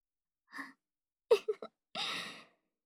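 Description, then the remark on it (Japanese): Ragged, out-of-breath panting: a short breath, then a quick burst of three choppy gasps, followed by a longer, louder huffing exhale. Nobody speaks. “なんか息切れてない？”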